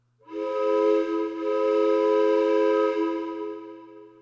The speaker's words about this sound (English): Choo-choo breath happens 4 different times. Each time it will be announced with a train whistle.